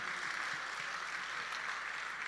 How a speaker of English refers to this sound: Shall we celebrate Jesus with a clap offering?